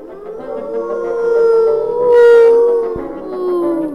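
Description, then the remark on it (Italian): A wolf howls in one long, sustained, wavering cry that swells and falls in pitch, loud, with no voices alongside. “Sì, proprio una giornata terribile, tutta colpa del lupo.”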